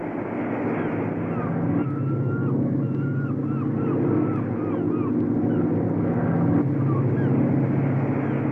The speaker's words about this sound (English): It's a Coast Guard search plane. I better swim to shore and get under those trees or they'll spot me.